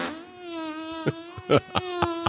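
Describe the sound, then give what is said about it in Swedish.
A long, drawn-out fart holds a steady, buzzing tone throughout, broken by several short sputtering bursts in its second half. It is fairly loud, with no talking. “Man måste liksom hushålla med fjärten.”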